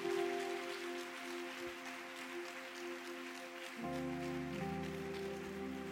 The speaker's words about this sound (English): Why don't you clap your hands for the Lord? Oh, go ahead and clap your hands for the Lord.